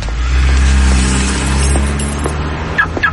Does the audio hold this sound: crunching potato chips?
no